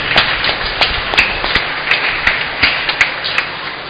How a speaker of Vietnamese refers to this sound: Chúng ta hãy chúc mừng nhau một tràng vỗ tay thật lớn.